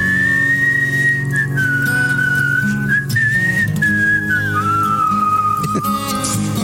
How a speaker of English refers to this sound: …, song of the day. One, two, one, two, three, four. Everybody whistle.